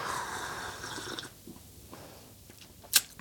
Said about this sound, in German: Guck mal, ich gieße schon nach.